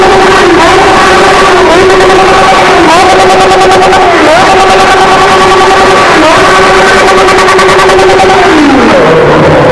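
A loud car engine revs hard, climbing in pitch through several quick gear shifts before winding down near the end.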